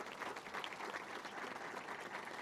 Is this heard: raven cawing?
no